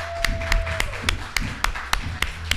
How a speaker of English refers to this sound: First of all, I want to give a round of applause for the Women in Podcasting Festival. Let's clap it up.